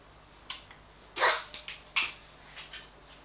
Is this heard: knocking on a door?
no